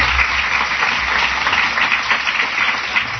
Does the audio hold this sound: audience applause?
yes